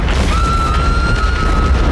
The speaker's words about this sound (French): Grosse explosion derrière.